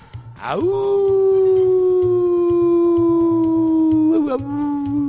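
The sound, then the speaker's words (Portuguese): A dog howls in one long, sustained, wavering note that rises sharply, holds steady and slowly falls, loud, over a faint rhythmic low thumping in the background. “Ô lobo, é mal pé duro esse, viu?”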